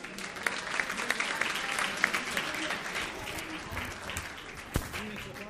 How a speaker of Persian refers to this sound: خودتون تشویق کنید لطفا.